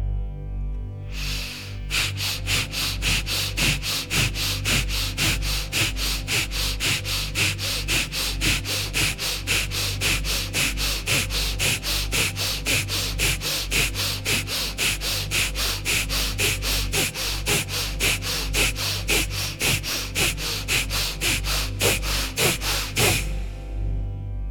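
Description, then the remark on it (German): Rapid, steady nasal breathing done as a fast-rhythm breathing exercise: quick forceful sniffs and exhales repeated at an even fast rhythm for over twenty seconds, loud with a low hum underneath. “Üben Sie von Anfang an in einem schnellen Rhythmus, da ein langsamer mehr Muskelkraft fordert und wesentlich schwerer länger durchzuhalten ist.”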